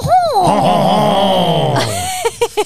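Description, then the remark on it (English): A person imitates a nasal French-style snort: a long, wavering groan-like vocal sound that ends in three quick, sharp snorting bursts, fairly loud. “Everybody do a French snort.”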